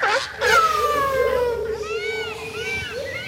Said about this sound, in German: Hört ihr was? Es pfeift, es trillert, man hört jede Menge Tiere, Vögel, aber keine Stimmen von Besuchern und Besucherinnen. Kein Kinderjohlen vom Spielplatz, keine Bollerwägen, keine Kinderwägen. Also ein paar typische Tierparkgeräusche fehlen.